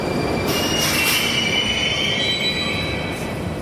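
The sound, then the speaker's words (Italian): Metro train wheels squeal steadily on the rails as the train heads toward the city centre, a loud, sustained high-pitched screech with several shifting tones over a continuous low rumble of the moving train. No one speaks. “La metropolitana mi porta verso il centro, cambio alla stazione di Piazza della Rivoluzione, poi fino al Parco della Cultura.”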